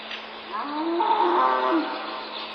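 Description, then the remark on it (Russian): In the morning at Ignalina National Park, Lithuania, a single long, low moo from a farm animal rises and falls over about a second, set against a steady background hiss with no distinct birdsong standing out. “Утро в Игналинском национальном парке Литвы начиналось с перекликания птиц и домашних животных.”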